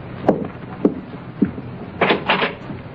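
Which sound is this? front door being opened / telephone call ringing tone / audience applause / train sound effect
front door being opened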